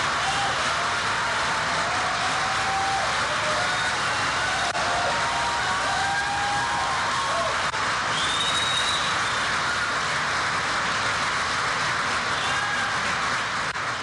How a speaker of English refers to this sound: As I said, usually I'd cut that applause, but that was loud and sustained, even for a line that was designed to get applause.